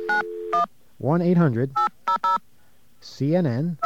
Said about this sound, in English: All right, let's see what we're getting ourselves into here. Got a dial tone, okay.